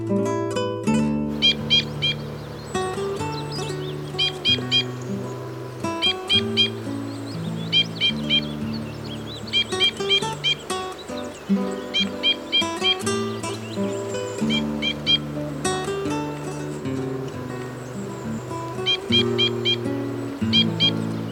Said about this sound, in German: Das war der Bindenkreuzschnabel.